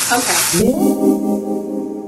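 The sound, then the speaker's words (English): Kimchi for kimchi fried rice sizzles loudly in a frying pan, a dense hissing burst at first, then the frying continues more softly beneath a person's voice. “Let's pretend this kimchi frying noise is the fried egg.”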